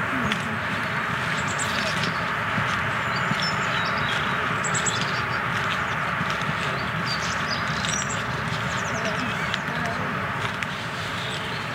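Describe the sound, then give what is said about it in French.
Scattered high bird chirps and short song phrases as birds begin to sing among leafless trees, coming through a steady outdoor hum, with no clear voices. “On voit à travers, puis on voit les oiseaux un peu plus facilement, même si là ils commencent à chanter.”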